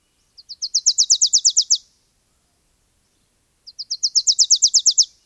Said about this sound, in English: The first time I got a visual of this bird giving this outrageously loud call for its size, I couldn't believe it. This teeny little yellow, black-headed Wilson's warbler. Dark cap on the Wilson's warbler.